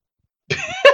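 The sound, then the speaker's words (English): After a moment of silence, a person coughs: a raspy, drawn-out cough followed by a sharper, louder second burst, with no talking. “I just think of people coughing.”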